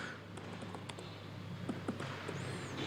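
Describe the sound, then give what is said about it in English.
Irregular keystrokes on a computer keyboard, soft, tapping in short uneven bursts over a steady low electrical hum, with no one speaking, as someone types after switching to the proper keyboard. “Let me first switch to the proper keyboard, and then it's easier for me to type.”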